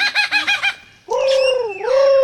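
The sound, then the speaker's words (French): A superb lyrebird sings alone beneath eucalyptus trees, rehearsing its song: a quick series of five harmonic chirps, then a brief pause before a long, loud, sweeping whistled phrase that bends down and back up, clear. “À l'ombre des eucalyptus, un oiseau répète son tour de chant. Un magnifique oiseau lyre, aussi appelé ménure superbe.”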